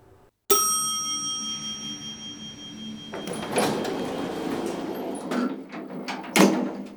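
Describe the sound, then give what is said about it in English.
A bright elevator chime rings out and lingers, then doors slide shut with a rumbling whoosh, ending in a couple of soft thuds as they meet. No one speaks. “As soon as the elevator doors closed firmly behind her, Ochako realized she had made a mistake.”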